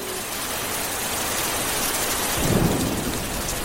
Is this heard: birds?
no